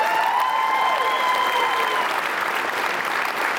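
An audience claps steadily, a dense, even wash of applause lasting the whole moment, with a faint sustained tone threading through the first couple of seconds.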